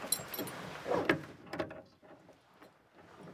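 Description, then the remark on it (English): Metallic jingling of keys followed by sharp clicks and clunks as a Lama unlocks the door to a place hidden away for centuries, then quieter rustling and faint shuffling; no voices. “The Lama produces a key and unlocks the door to a place that has been hidden away for centuries.”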